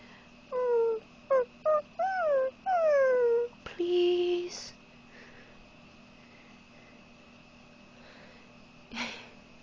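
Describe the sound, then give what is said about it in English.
A person imitates a puppy whimpering: a quick run of about six high, whiny cries with rising and falling pitch, fairly loud, followed by near silence. “Don't make me do the puppy whimpering noises again.”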